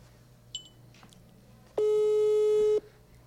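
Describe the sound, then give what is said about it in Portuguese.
A telephone ringback tone sounds once as a steady, loud electronic hum lasting about a second, with a brief faint beep earlier and no one picking up or speaking. “Vai, Gabi, atende.”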